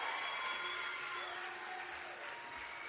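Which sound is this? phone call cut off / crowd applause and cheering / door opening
crowd applause and cheering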